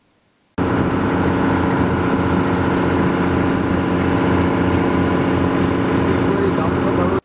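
A loud, steady long-tail boat engine on Chu Lan Lake in Thailand drones with a dense rumbling roar that holds constant throughout, starting abruptly after a brief silence, with no talking.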